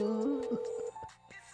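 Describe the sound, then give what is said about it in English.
A faint, steady electronic ringback tone hums through a phone line for nearly a second, then cuts off, leaving quiet line noise with a few soft clicks. “Answer the phone. Pick up the phone, homie.”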